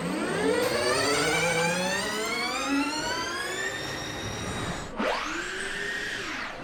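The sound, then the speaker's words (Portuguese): Racing engines at a race circuit in the Algarve, Portugal: one engine screams as it climbs steadily in pitch, then briefly cuts out before another high-revving engine whine rises and falls, loud, with no voices. “Deixamos para trás os motores do Algarve”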